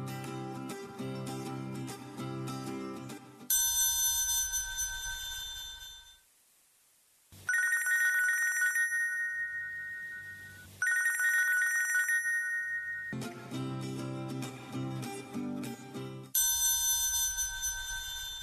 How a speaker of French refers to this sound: c'est un téléphone qui sonne.